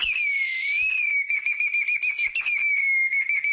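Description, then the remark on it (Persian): A Tajik folk clay water whistle toy, shaped like a human-figured jug and filled with water, trills steadily on a high, warbling tone, bubbling and fluttering like a nightingale's song, fairly loud for several seconds with no talking. “عجوبه نیست، پرنده نیست، بلکه بازیچه هوشتکشی است که از گل ساخته شده نمودی کوزه آدم شکل را دارد.”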